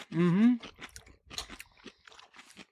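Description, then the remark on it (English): A brief hummed "mm" gives way to wet crunching as someone chews a crisp whole Grillo's standard dill pickle, with several irregular bites and munches that fade toward the end. “This is the Grillo's pickles dill. These are just whole dills, Grillo's standard dill.”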